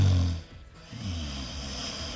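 human body sound, snoring

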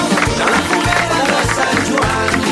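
crowd, audience applause

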